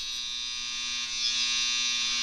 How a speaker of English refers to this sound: It's my dryer. My dryer is incredibly loud.